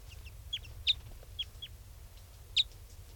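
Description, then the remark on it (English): A flock of four type 5 birds, one a red male and the others brown, gives short, sharp, high-pitched calls, about eight scattered notes, two louder than the rest, over a steady low rumble. “There's a flock of four type 5s here now.”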